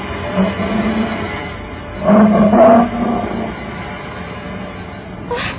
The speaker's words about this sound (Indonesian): Harimau.